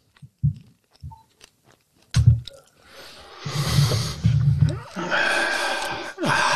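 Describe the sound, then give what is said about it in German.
Wet smacking and chewing noises come in short bursts, then turn into a denser, continuous squishy mouthing and rustling that fills the second half. “Schmatzen und Nästen.”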